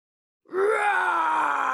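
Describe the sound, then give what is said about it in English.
A person's voice imitates the monster's roar while reading the children's book Not Now, Bernard, where the monster roars behind Bernard's mother: one loud, sustained growling cry that starts abruptly after a short silence and slides slowly downward in pitch, with no other talking. “Roar! Went the monster behind Bernard's mother.”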